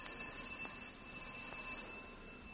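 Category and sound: household object, doorbell ringing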